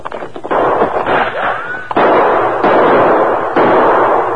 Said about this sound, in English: That shot came behind that large rock up to the left, Tonto. That right?